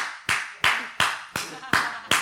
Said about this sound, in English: You're going to learn to clap on 1 and 3 instead of 2 and 4. For those who don't know, right? Because that's how Latinos do it. They clap on 1 and 3. Americans clap on 2 and 4.